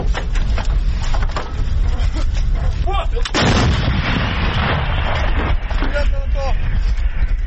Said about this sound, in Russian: Гармата М777 калібру 155 мм. В народі три топора, три сокири. Так от ця гармата, як і кажуть військові Збройні сили України, зрештою це підтверджують і західні партнери, переламала хід війни.